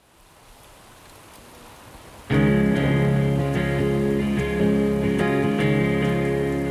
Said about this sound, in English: On the last morning, it rains as hard as I've ever seen.